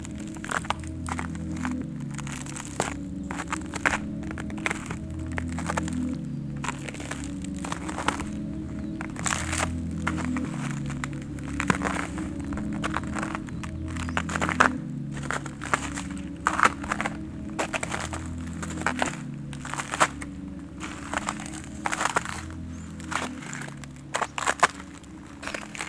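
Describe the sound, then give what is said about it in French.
Steady footsteps crunch and crack over patches of ice on a winter path with patches of snow and dead leaves, each step a sharp brittle crunch in a regular walking rhythm, with a low hum underneath and no talking. “Ce dernier est plutôt contrasté entre plaques de neige, tapis de feuilles mortes et ici, plaques de glace.”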